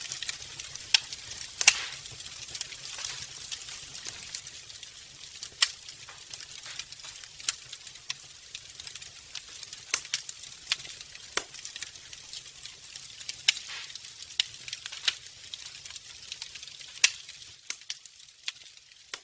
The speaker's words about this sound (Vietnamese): Ngày 6 tháng 2 năm 1974, Hằng Cô viết: chúng tôi lạy được 5 dặm, hiện cắm trại trên bãi cát biển và nhúm lên ngọn lửa vui mừng nổ vang tí tách.